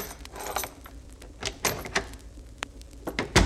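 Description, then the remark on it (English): A door latch clicks and rattles with several sharp metallic knocks as the latch is opened, followed by the muffled creak and bump of a door swinging open, fairly loud, with no one speaking. “Open the latch and walk in.”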